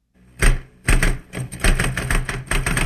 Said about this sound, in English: There are so many found sounds in the Smithsonian archives, like this typewriter. This is not a music selection from the archives, but a documentation of office life.